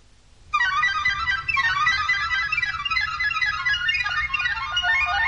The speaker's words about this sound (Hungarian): Ja, Istenem, de megijedtem. Hányszor mondtam neked, hogy le kell szereltetni azt a csengőt.